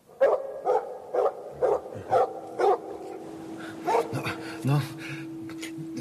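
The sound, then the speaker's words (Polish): A live dog thrown into a well barks from inside it in a steady series of about six evenly spaced barks, then gives a few more irregular barks and whimpers, with a faint low hum running underneath. “Musi naprawdę pomieszać się rozum, naprawdę trzeba nienawidzieć wszystkich i wszystkiego, aby zrobić coś podobnego i wrzucić żywego psa do studni.”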